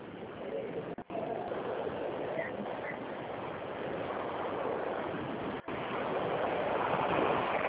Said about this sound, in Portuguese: Tá chovendo aí? Não, é que a gente está na rua, aí tem todo barulho de carro, moto.